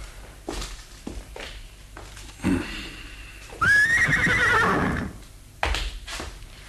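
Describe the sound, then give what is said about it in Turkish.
A horse lets out a loud, drawn-out whinny, with scattered hoof clops and thuds on hard ground before and after it. No one speaks. “Atlar hazır baba.”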